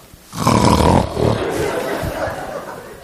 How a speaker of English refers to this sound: Can you catch that snore on the CD that we're developing here?